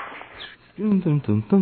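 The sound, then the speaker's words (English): Dogs whimpering and barking in a room: after a moment of near-quiet, four short, whiny, high-pitched yelps come in quick succession, fairly loud. “Now we're gonna pretend we didn't hear the dogs, and we're gonna start right now.”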